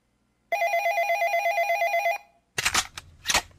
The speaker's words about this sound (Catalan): Sacarina, Sacarina, el telèfon!